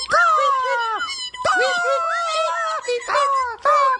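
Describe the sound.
A voice imitates bird calls: loud, warbling, high-pitched cries that slide up and down, delivered in about four bursts separated by short pauses.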